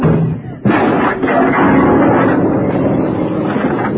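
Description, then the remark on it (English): A door slams hard and gives way to a heavy crash as a piano and a vase come down, rumbling and clattering loudly for several seconds, a dense, noisy jumble of impacts that never quite dies down. “How could I knock the vase off the piano just by slamming the door like this?”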